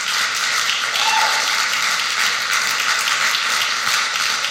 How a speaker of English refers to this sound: So you need to applaud that message this morning.